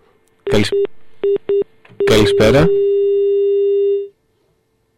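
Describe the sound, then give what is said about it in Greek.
Short electronic phone-line beeps, a quick series of tone pulses followed by a longer steady tone lasting about two seconds, heard as a listener's call is put on air during a broadcast, while a voice briefly speaks a greeting. “Εμείς όμως πρέπει να κλείσουμε την εκπομπή μας, γιατί και η ώρα έχει παρέλθει, και νομίζουμε έχουμε ένα τηλέφωνο λοιπόν στον αέρα.”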